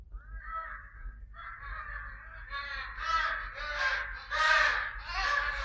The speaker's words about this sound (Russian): Дикие утки, гуси, лебеди и другие незваные гости слетели сюда, почуяв добычу. Они с жадностью пожирали сонную рыбу, и самыми ненасытными, самыми горластыми оказались чайки.